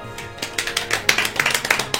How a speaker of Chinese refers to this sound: 尴尬的鼓掌